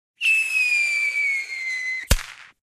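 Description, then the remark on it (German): A firework rocket whistles on a steady, slowly falling pitch for nearly two seconds, then ends in a single sharp, loud bang that crackles briefly as it fades. No voices. “ob nicht auch nur ein paar wenige Feuerwerkskörper reichen würden”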